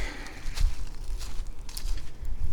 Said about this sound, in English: And that bird up there in the leaves is starting to piss me off because it sounds like a Mati rooting around, but it's not a Mati rooting around, it's just a bird.